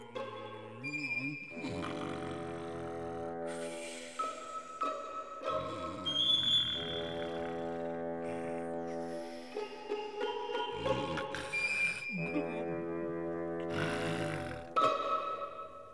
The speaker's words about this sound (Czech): Trautenberg usnul v tu ránu a chrápal, jako když prk nařeže. Až se v rokytnici zastavila pila a poslouchala, kdeže se jí to narodila sestřička.